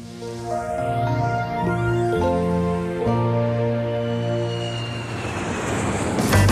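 An airplane engine roars overhead in a steady, loud drone whose pitch bends as it passes, with no voices, filling the whole stretch and swelling slightly toward the end.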